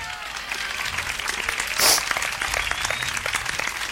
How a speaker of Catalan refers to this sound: M'he emocionat i tot. Un aplaudiment, no?